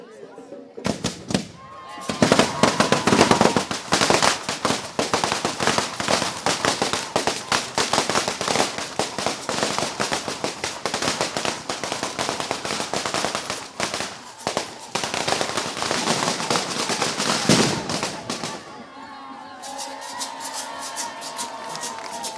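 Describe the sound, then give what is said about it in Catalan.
A dense firecracker barrage (tronada) set off to open the Festa Major dels Petits in Vilafranca del Penedès crackles almost continuously for about seventeen seconds, loud rapid pops packed together with brief dips, then gives way to a murmuring crowd. “Ens posem de puntetes a veure si sortim a les fotos a darrere aquesta tronada que s'està a punt d'engegar.”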